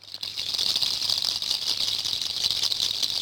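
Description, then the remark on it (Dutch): An instrument produces a steady, dense rattling patter, bright and hissy, imitating the gentle babbling of a brook, continuous and even throughout with no voices. “Heerlijk zo dat kabbelen. Een heerlijk kabbelend beekje.”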